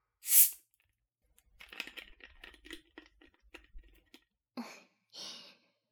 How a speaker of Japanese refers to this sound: そして、最後はこの炭酸水で流してあげよう。これを使うとね、シュワシュワするから、きっと気持ちいいのだ。